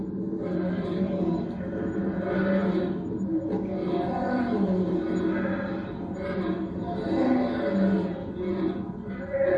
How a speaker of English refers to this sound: We had some success with a video clip this morning that was short, so I want to show you one more clip tonight and help us get some insight as far as what it means to hear a lion's roar.